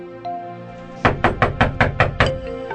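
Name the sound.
knocking on a door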